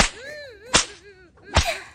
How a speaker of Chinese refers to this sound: 被鞭子抽打皮肤，就像摸了世间最烈的春药一样，而且还可以激发出身体最原始的欲望